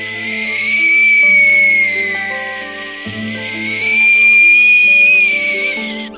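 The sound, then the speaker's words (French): A high, thin whistling like a sea breeze, holding steady pitches that rise and fall in long swells over sustained low, droning tones that shift in steps. “Tout en bas résonne la corne de brume d'un navire, tandis que la brise marine siffle en faisant ses gammes.”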